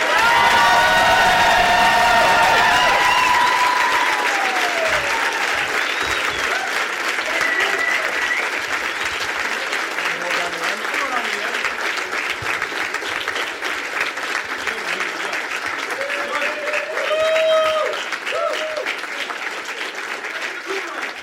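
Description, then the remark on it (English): A crowd bursts into loud, sustained applause with whoops and high-pitched cheers as the host welcomes his friends, the clapping a dense steady patter that stays strong for about twenty seconds and swells briefly near the end. “Please give a big warm welcome to my friends”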